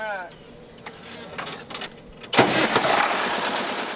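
A red farm tractor engine on a vegetable and livestock farm about 70 miles west of St. Louis rumbles quietly at first, then surges into a loud, rough, steady roar partway through.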